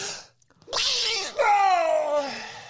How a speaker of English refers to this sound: I'm going to sneeze in a minute, by the way, if you were excited about that.